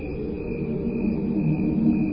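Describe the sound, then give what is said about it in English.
Cricket chirps slowed down blend into a steady, humming drone with layered tones, much like a choir singing sustained notes, continuous and moderately loud with no talking. “So this choir that you're hearing is actually the sound of crickets slowed down.”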